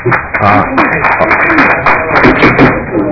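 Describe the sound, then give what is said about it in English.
Scattered applause breaks out in a legislative committee room after a vote on House File 328, a few people clapping briefly while several voices murmur and talk over it. “There's no applause in this room.”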